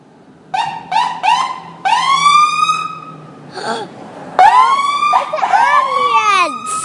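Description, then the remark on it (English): A loud ambulance siren passes by, cycling through quick yelping bursts and long rising wails that grow louder partway through, with no talking over it. “Oh, here comes something with a siren to make a lot of noise over our broadcast.”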